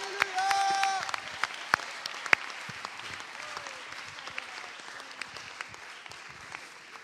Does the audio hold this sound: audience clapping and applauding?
yes